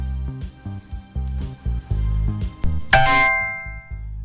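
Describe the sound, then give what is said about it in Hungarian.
A bright, ringing SMS notification ding from a phone sounds once near the end as a text message with a confirmation code arrives, cutting sharply through a background of low, rhythmic music and lingering with a shimmering decay. “viszonylag hangosan szívbajthoz talán majdnem. Érkezett meg az SMS, megnézzük.”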